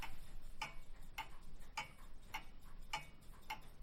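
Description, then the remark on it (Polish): A wall clock ticks steadily, six crisp, evenly spaced ticks at about one every half second, clear over a faint room hum with no voices. “Ten na ścianie wisi, ten zegar zdrowiutki.”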